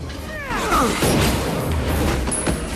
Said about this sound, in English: Chance hears the gunshot and runs back as the two men fight in the darkness.